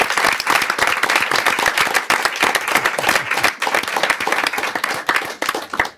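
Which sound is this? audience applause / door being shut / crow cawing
audience applause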